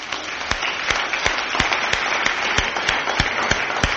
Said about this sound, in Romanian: Aș vrea să vă rog pe toți cei care sunteți peste 70 de ani să vă ridicați în picioare. Toți cei care sunteți peste 70 de ani. Haideți să-i aplaudăm.